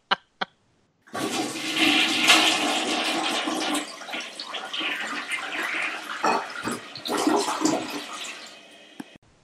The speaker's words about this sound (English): Get it out and let him flush the toilet.